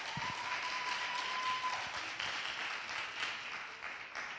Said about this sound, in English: Yes, we can give her a round of applause.